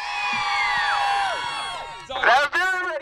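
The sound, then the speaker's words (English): A small group of spectators cheers and whoops together in sustained, overlapping voices, then bursts into two louder shouts near the end, at an event where an ice cream truck is to be dropped from a crane and run over by a tank. “And we've even got a few spectators, Vaughn. Are you ready, crowd?”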